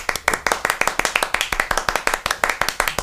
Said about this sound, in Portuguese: Recebam com palmas e alegria a rainha abelha abelhinha, Bi para as íntimas.